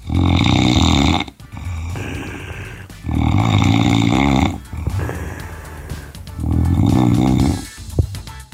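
A recording of a person snoring: three loud, rasping, throaty snores at a steady rhythm, each lasting about a second and separated by quieter breathy inhales. No talking.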